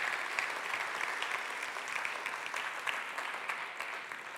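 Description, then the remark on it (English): Sustained applause from a church audience giving God a round of applause, a dense, steady wash of many hands clapping at once with no single claps standing out, continuing evenly throughout. “Come on, let's give God a round of applause and thank Him.”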